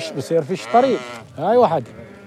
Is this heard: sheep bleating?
yes